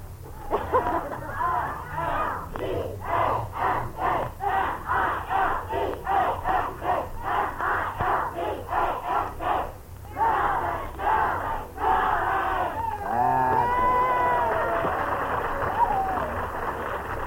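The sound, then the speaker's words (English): A group of high school senior students from Milbank, South Dakota shouts their school yell in loud, rhythmic chanted bursts, breaking into sustained cheering and high whoops near the end. “If any of you have a school yell when I mention your name, yell out your school yell.”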